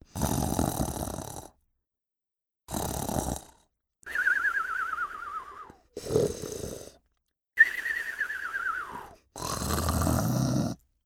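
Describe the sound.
Loud, exaggerated snoring in six bursts separated by short pauses, with rasping inhales and whistling, falling exhales, from someone lying down in a hut and snoring very loudly during a pretend sea-monster game.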